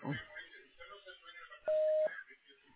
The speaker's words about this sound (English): You have reached the general mailbox at Orthopedic and Sports Medicine Center. Please leave a brief message at the tone, including your name, date of birth, and a phone number that you can be reached at.